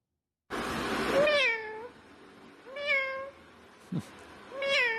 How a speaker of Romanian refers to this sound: Bun, ăsta este, da, e tot o pisică, e adevărat